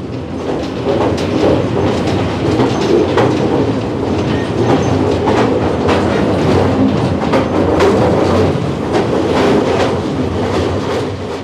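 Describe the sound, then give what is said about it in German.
A mine railway train carrying the workers into the mine to its top gallery level rolls steadily along its rails with a continuous low rumble and repeated rhythmic clacks of wheels over track joints, loud and constant throughout, with no talking. “Die Einfuhr in das Bergwerk erfolgte mit der Grubenbahn.”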